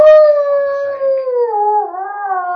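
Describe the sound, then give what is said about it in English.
A single long, mournful beastly howl rings out loud, filling a room, holding a steady pitch before sagging lower and wavering toward the end, with no other sounds around it. “A beastly howl fills the room, chilling you to the bone.”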